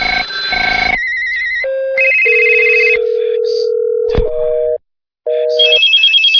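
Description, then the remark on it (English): A loud sequence of telephone rings and electronic phone tones, shifting between buzzy trills and steady beeping pitches, with a brief silence before a final warbling ring. “Phones.”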